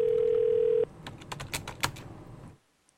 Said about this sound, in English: Pick up the phone, honey. Pick up the phone, sweetheart.